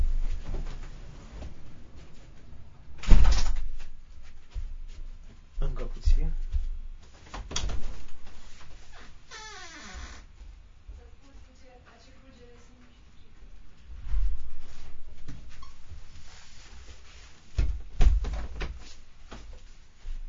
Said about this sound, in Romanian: Da, a trebuit să închid câteva uși și ferestre. Pentru că vine o furtună mare, probabil.